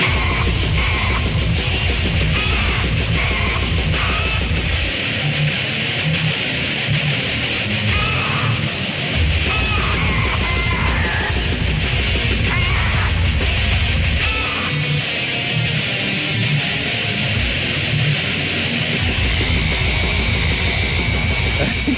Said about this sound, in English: a death metal band fronted by a parrot. And this is what that sounds like.